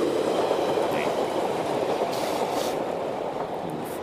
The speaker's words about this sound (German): S-Bahn, du bist zwar leise, aber immer noch zu laut.